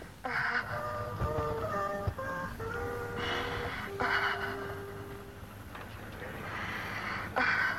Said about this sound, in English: And once the breathing begins to deepen, then the feeling begins to flow through the body. And keep breathing.